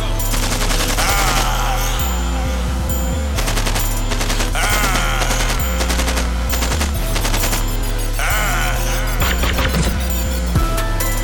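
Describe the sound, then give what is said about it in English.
Loud, rapid bursts of automatic gunfire rattle almost nonstop over a heavy, stepping bass beat, the sharp repeated shots dense throughout. “Load up the chopper, man. Get at these fuck boys.”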